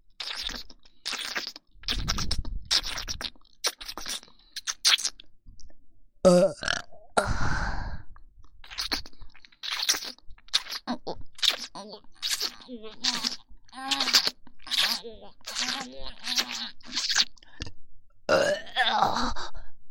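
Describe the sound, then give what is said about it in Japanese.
Close, intimate burps right at the microphone into the listener's ear, including a long, low, drawn-out belch, mixed with soft breathy mouth noises and quiet whispered sounds throughout. “耳元ゲップでおちんちんどんどん元気になってます。”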